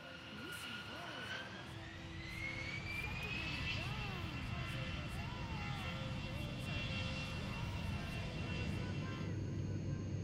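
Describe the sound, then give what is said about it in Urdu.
A steady, loud airplane engine roar with a rising whine, like a jet taking off, sustained for the whole stretch, with faint voices mixed underneath; a quiz-show sound effect of the plane setting off with the ARMI School team, travelling to Iran. “ایک مرتبہ پھر اے آر ایم آئی اسکول کی ٹیم کو لے کر جہاز سفر پر نکلا ہے, آیا ہے ایران,”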